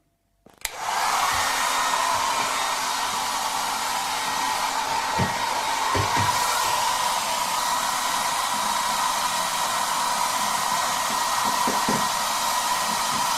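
A hair dryer, used to melt the ice in a refrigerator's freezer compartment, switches on abruptly and blows with a steady, loud whooshing roar, punctuated by a few faint knocks and clunks underneath, with no one speaking.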